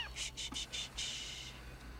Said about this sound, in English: She places a kitten by his head.